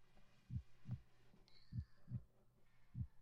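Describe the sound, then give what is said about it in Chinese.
A teacher's heartbeat heard through a stethoscope placed on the chest: deep, muffled thumps arriving in lub-dub pairs at a steady, unhurried rhythm, soft, with a faint hum and a brief thin tone behind them. “这个就是老师的心跳，”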